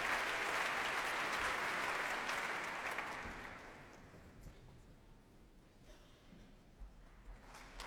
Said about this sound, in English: And applause now for the guest leader of the BBC Symphony Orchestra, Daniel Rowland.